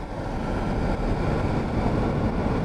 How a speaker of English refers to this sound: That's a German-built Biogens Sentinel mosquito trap, and it's phase one in the state's effort to build a profile of two newly famous mosquitoes, Aedes aegypti and Aedes albopictus, the species blamed for spreading the Zika virus.